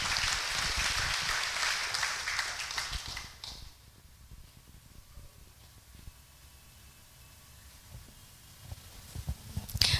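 A burst of audience applause, dense and crackling, fills the first three seconds and then cuts off, leaving a low, quiet murmur until a few faint claps or bumps near the end.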